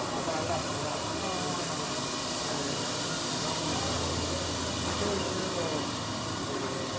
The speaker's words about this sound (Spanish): Y también le venden el cuero al caballo. Con esta máquina le sacan el cuero.